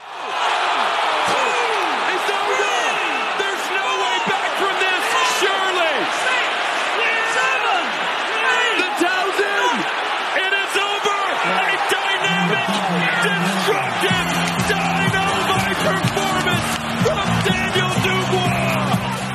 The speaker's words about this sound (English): Well, as you can hear, a big crowd, 96,000 people were there.